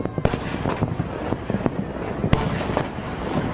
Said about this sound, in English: Listen to this. This is the fireworks display last night. Going off. Pretty impressive, you know.